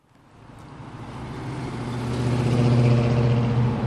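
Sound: car engine accelerating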